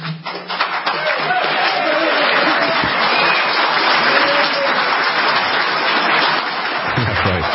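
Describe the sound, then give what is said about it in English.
Sustained applause from an audience, a dense, steady patter of many hands clapping at a loud, even level for several seconds, with a low voice briefly audible underneath. “What you don't hear at the very end of that video is that the people he was addressing there, the government officials who are proposing this gun confiscation plan, they wanted everybody to stop clapping.”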